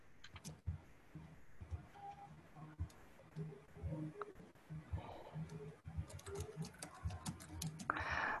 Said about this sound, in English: Just a minute. I'm typing Derek right now.